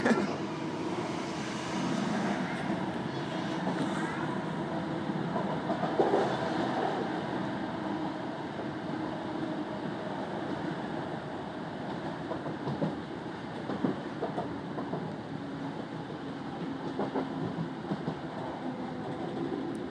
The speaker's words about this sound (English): Sleepy with the sounds of the train now.